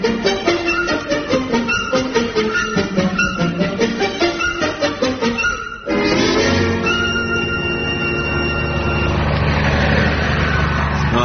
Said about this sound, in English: Yeah, that's the 10th lorry that's passed us.